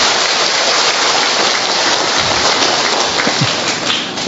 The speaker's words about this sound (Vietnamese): Rồi xin các bà, bây giờ các bà nha, vỗ tay một tràng pháo to chúc mừng tất cả các ông làm cha coi. To lên.